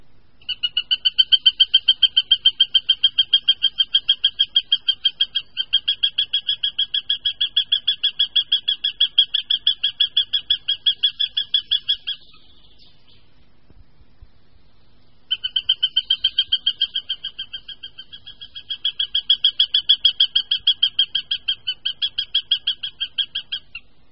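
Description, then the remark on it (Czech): A male northern goshawk gives a rapid, harsh alarm cackle at its nest with small young, a long unbroken run of sharp notes, then a short pause and a second equally fast burst, loud with no talking. “Poslechněme si proto varovný hlas samce u hnízda s malými mláďaty.”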